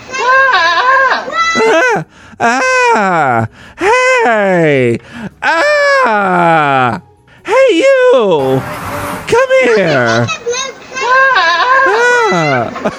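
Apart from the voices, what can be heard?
goat bleating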